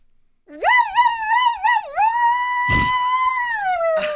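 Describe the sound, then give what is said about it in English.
A person's voice imitates a police siren, a loud wail that warbles up and down several times, then holds a long steady high note, with a brief noisy burst partway through. “do your best police siren.”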